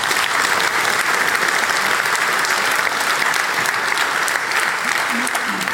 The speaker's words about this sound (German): Applaus für Wonko.